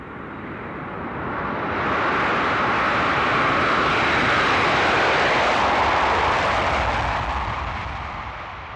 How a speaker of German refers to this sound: Sechs Mädchen machten eine Reise nach China. Sie flogen mit dem Flugzeug.